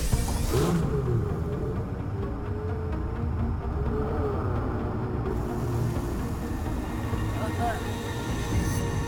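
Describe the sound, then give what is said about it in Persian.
A car engine rumbles loudly and steadily as the car arrives, its deep churning growl filling the whole stretch with a slight rise in intensity, like a motor being revved while idling. “خوبه ماشین اومد، بذار بره.”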